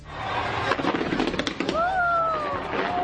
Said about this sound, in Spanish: Y lo han hecho con el espectáculo de fuegos artificiales para iluminar la ópera de Sydney.